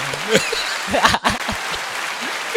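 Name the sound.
applause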